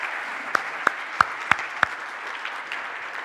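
An audience applauds: a dense, steady patter of clapping with five sharper, louder claps standing out in the first two seconds, then thinning slightly toward the end.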